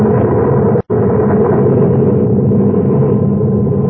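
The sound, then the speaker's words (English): A loud, sustained explosion as the Adamson A blows up, rumbling as a dense, low roar, broken by a brief silent gap near the start, then churning on steadily without letting up. No one speaks. “And I could feel the dull concussion waves hit my ears as the Adamson A exploded.”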